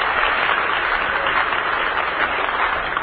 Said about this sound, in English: Let's send them a cheer from the Hollywood home base. Have a good time back there,